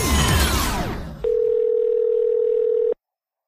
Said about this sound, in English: The phone is ringing.